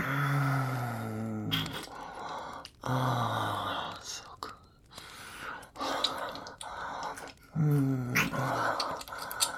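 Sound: man growling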